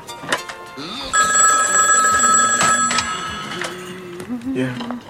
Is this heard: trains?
no